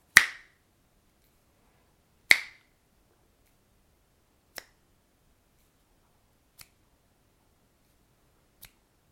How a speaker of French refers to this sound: Et en disant cela, le diable y claque dans ses deux doigts.